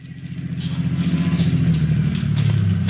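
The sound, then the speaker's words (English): A police lieutenant's car engine hums, its low rumble swelling in the first second and then holding steady as the car rolls to a halt at the lot of a used car dealer, Happy Harry. No voices are heard. “who was waiting as the lieutenant's car pulled to a stop.”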